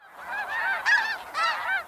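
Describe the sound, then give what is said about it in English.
A flock of geese honk in overlapping, nasal calls as they fly across the sky in a V-shaped formation, a busy chorus of repeated honks that rises and falls continuously, clear with no voices present. “A flock of geese wings across the sky in perfect V-shaped formation.”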